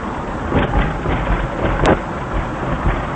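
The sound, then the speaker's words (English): The rough, worn engine of an old van with almost 200,000 miles on it runs steadily, a dense rattling rumble with brief clunks and surges, with no one speaking. “This van has got about almost 200,000 miles on it.”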